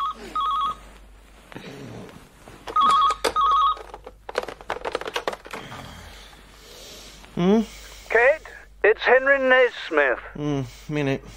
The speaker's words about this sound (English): Yep. Phone.